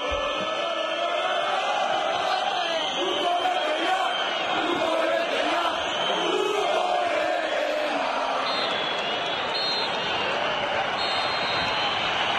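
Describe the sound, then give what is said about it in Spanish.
A large crowd at San Mamés stadium roars continuously, with shrill whistles and angry shouts of "vete ya" jeering coach Cuco Ziganda at the final whistle, rising through a dense, steady wall of noise for the whole stretch. “Pese a la victoria, San Mamés ha despedido hoy al Cuco Ziganda con pitos y con gritos de vete ya.”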